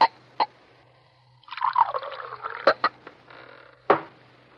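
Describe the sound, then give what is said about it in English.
A bartender pours a drink into a glass in a short gurgling stream, framed by sharp glass clinks before and after, with a final louder knock of the glass being set down. No one speaks. “Harry, pour another.”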